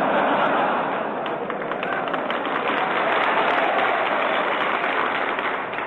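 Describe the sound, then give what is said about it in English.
A large audience of Marines, including women Marines, applauds steadily and loudly for about six seconds, a dense, continuous wash of many hands clapping at once with a faint crowd murmur mixed in. “Only the winners applaud, you notice that?”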